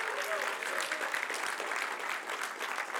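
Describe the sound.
An audience claps steadily for a few seconds, a dense, even patter of many hands with a faint murmur of voices underneath.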